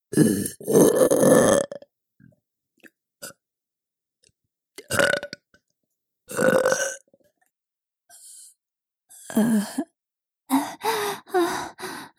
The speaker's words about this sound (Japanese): いっぱいズンズンされたからまたしたくなっちゃった。おまけのママゲップ行くわよ。